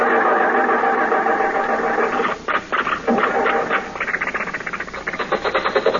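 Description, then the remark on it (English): A flooded car engine with too much gas cranks with a grinding, uneven whir, stutters briefly, then catches and settles into a loud, rapid, pulsing chug. No one speaks. “The motor is flooded. It's got too much gas.”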